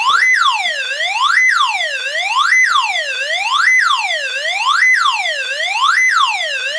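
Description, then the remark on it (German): An electronic ambulance siren sound effect, switched on as the second sound of a device that plays it until stopped, wails steadily, its bright, buzzy tone sweeping up and down in quick, even cycles about once a second, loud and continuous with no voices. “Ich habe mal gestoppt und schalte jetzt als zweiten Sound den Rettungswagen an.”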